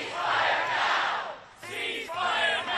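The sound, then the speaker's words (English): A large crowd of pro-Palestinian protesters in Washington, protesting Israel's war in Gaza, chants loudly in unison while marching towards the U.S. Capitol as police deploy pepper spray. A rhythmic roar of many voices briefly dips before surging again with shouted phrases. “Police deployed pepper spray on a large crowd protesting Israel's war in Gaza that marched towards the U.S. Capitol.”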